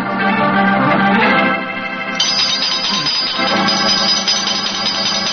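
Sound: doorbell ringing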